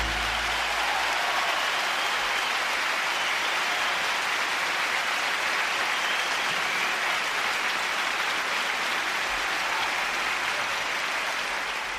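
Sustained audience applause on a programme after a song dedicated to politician Josep Lluís Carot Rovira: a dense steady wash of many hands clapping at an even, fairly loud level throughout, with no voices standing out.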